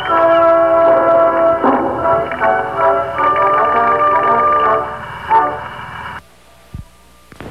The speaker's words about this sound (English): Train leaves from Montreal on track 42. All aboard.